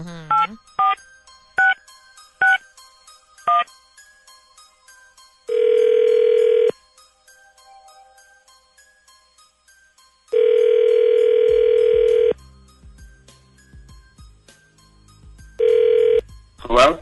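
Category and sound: signal or alarm, telephone number being dialed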